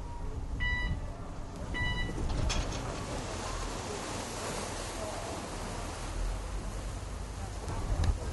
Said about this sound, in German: Wir sind jetzt gerade an der Station Dockland, Fischereihafen, und es wurden gerade Leute raus und wieder reingelassen. Und hier ist das Piepen von der Brücke.